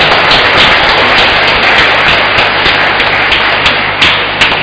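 A big round of applause from the audience at a mass in Vĩnh Hòa: a loud, dense, steady crackle of many hands clapping together, with no voices standing out above it.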